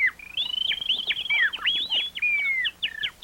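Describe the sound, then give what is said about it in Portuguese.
A caller on the phone whistles an imitation of birdsong: a rapid, continuous warble of high trills and quick rising and falling chirps, fairly loud, with no talking. “Olha, o povo diz que eu canto igual a passarinho.”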